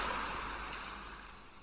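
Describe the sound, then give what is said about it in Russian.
A steady, hissing wash of ocean surf rolls on with no voices, slowly growing quieter over a couple of seconds as the waves fade away. “Шум прибоя постепенно стихает.”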